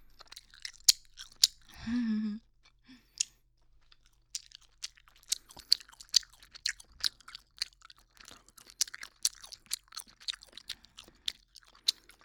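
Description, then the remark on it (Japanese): Wet chewing of peach-flavored gum with sticky smacking and clicking sounds in an uneven, continuous rhythm, plus a brief rustle near the start. No one speaks. “以上、ガムを噛む音でした。”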